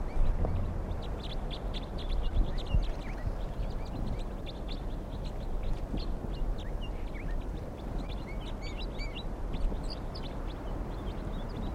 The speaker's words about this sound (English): whole flock of about, let's see, 2, 4, 6, 8, 10, about 20 crossbills are here, and some are getting caught now.